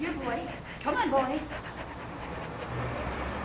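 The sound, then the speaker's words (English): A dog named Rover, bringing in the paper, pants in quick, breathy huffs over a steady low background, with a brief whiny, voice-like sound early on before the panting continues more softly. “Good boy. Give me the paper. That's it. Now, can you roll over for me?”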